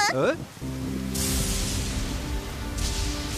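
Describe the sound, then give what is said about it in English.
A brief vocal sound at the start gives way to a sudden wash of hissing rain that sets in about a second later and keeps falling steadily, fairly loud, over low tones, as rain begins while people are out fishing. “Oh, it's starting to rain.”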